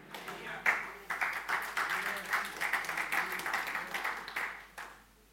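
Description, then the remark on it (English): An audience applauds steadily for several seconds after a sermon, a dense wash of many hands clapping, fairly even in loudness before tapering off at the end. “So that's what I need to do, get the clap going.”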